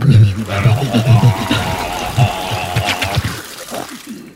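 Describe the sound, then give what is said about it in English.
Seawater pours and gurgles into a mouth for a few seconds, mixed with wet, throaty vocal noises, fairly loud before trailing off. “I bet, though, … would love some of that water from the sea into his mouth.”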